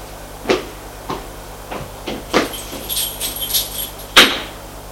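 hotel room door opening

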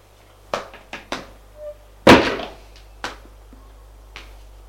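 door closing

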